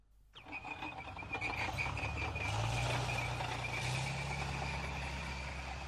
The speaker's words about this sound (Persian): صبح هنوز کاملا روشن نشده است که صدای ماشین های سنگین در شرک صنعتی هرات به گوش می رسد.